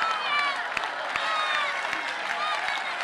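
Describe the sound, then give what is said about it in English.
An audience claps its hands in a steady rhythm, sharp claps landing about every half second over a continuous swell of many voices calling and singing together. “Say it, declare it, pray it, praise it, and clap your hands.”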